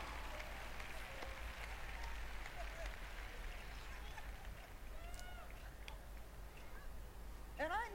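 An audience claps steadily for several seconds, a dense, moderate patter of many hands that never really builds. Crowd murmur runs underneath, and a few rising, whistle-like tones cut in near the end.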